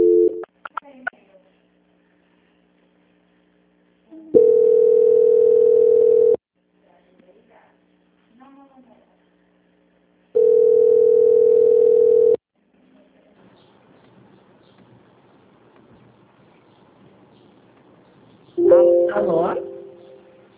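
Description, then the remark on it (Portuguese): Two long, steady telephone tones, each about two seconds, sound several seconds apart over a quiet line as a phone call is transferred to a quality control department, with faint line noise between them and a brief voice near the end. “Agora peço que você aguarde, que eu vou direcionar para o controle de qualidade para finalizar a contratação, tá?”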